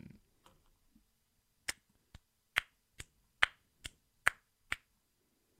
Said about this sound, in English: You get a little clap? That's all you got? That's it. That's all you got for me. Sounded like some snaps instead of claps. Yeah, that yeah. didn't sound like claps.